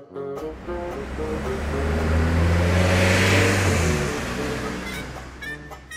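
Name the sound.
car driving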